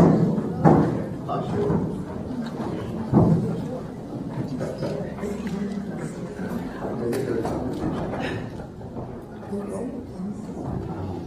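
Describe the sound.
A door thuds shut, with a second dull knock a few seconds later, over a steady murmur of voices and shuffling.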